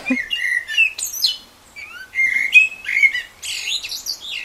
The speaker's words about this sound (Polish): A zięba w następujący sposób.